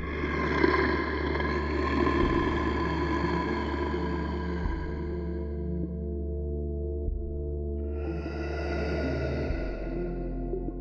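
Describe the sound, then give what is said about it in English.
A wolf howls at night: a long, resonant howl swells loudly, fades away, then rises again for a second cry, all over a deep, steady droning rumble with faint regular thuds. “Cracking the final vertebrae into place, it howls into the quiet night.”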